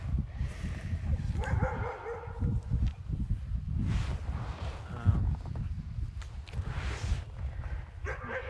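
A dog barks and whimpers in short, excited bursts, with a low rumble of background noise throughout and no clear talking.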